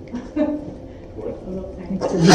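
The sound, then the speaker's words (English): A sharp, loud sneeze bursts out right at the end, after a couple of seconds of low, murmuring vocal sounds. “Bless you.”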